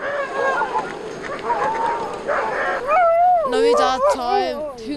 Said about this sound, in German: Wenn wir eine Tour starten, werden die Hunde total aufgeregt. Sie wollen unbedingt mitkommen. Freudig wedeln sie mit dem Schwanz.